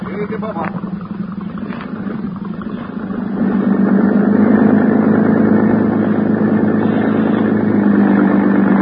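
motorboat engine running

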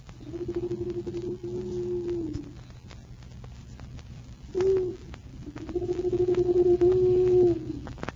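owl hooting

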